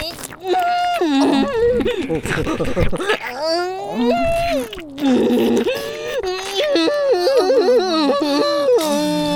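A dog whimpers and whines in drawn-out, high, wavering cries that rise and fall almost continuously, fairly loud, with only brief breaks between the plaintive calls.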